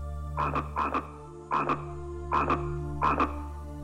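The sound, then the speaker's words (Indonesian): A frog croaks in quick doubled bursts, five pairs repeating at a steady rhythm, loud, over a constant low hum with no voices. “Namun, secara tidak terduga, seekor katak meloncat dari sungai ke perahu.”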